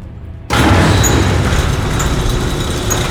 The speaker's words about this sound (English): Barrington, that cargo bay door is opening. Something is stepping out.